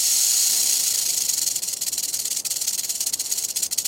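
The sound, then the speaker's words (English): A rattlesnake's rattle buzzes in a continuous, high-pitched dry hiss, steady at first and then breaking into rapid pulsing flutters toward the end, with no voices. “In one experiment, ground squirrels were nearly as alarmed by the burrowing owl's hiss as they were by the recording of a real rattlesnake like this one.”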